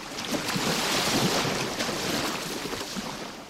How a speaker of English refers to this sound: Waves from the Atlantic Ocean hit the coast of Ibino, a fishing village in southeast Nigeria.